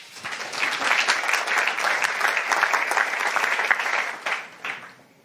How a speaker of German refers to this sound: Einen Applaus bitte.